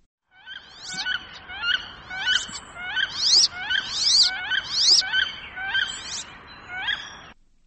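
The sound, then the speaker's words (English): A wood duck calls softly, a series of rising, squealing whistles repeated roughly eight times in quick, steady succession, alone with no talking. “The wood duck call is softer, like this.”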